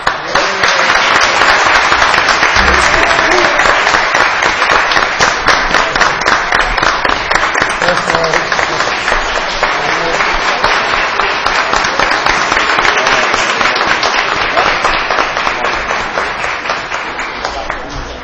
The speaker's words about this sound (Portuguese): eu gostaria que todos dessem uma salva de palmas para você.